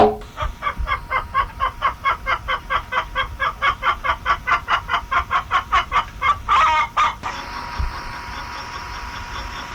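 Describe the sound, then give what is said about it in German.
A hen clucks in a fast, steady run of roughly two dozen short clucks, ending in a louder flurry before settling into a low background hum. “Henne.”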